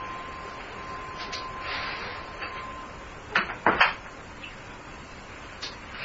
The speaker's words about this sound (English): Hang on one second, I'd have to close the door.